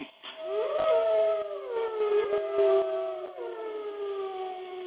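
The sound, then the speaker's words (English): Several wolves howl together in a sustained chorus, calling the pack together before a hunt, long wavering tones rising and falling and overlapping one another, fairly loud and continuous throughout. “Whenever it's time to go on a hunt, I'll howl, and this calls the other wolves to my side, and they'll join me in a joyful song.”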